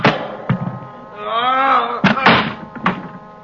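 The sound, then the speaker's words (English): A heavy meat storage room door with a large cold handle is hauled open: a few dull thumps and clunks bracket a long, drawn-out metallic creak of straining hinges, fairly loud. “Behind me, I felt a large cold handle. The door to the meat storage room. I heaved it open.”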